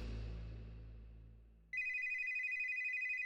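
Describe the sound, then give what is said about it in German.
A low, fading rumble gives way abruptly to a telephone ringing, a loud, steady electronic trill with a rapid pulsing warble, alone with no voices. “Das Klingeln des Telefons riss Brusje aus anstrengenden Träumen.”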